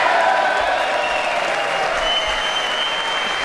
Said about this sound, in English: And all Democrats except one stayed seated and refused to clap. And it was so smart the way they did this, because he just let the applause continue. He let the moment continue.